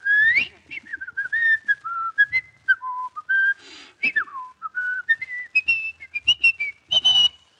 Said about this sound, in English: The way you whistle at it sounds like the dog has a cat up a tree.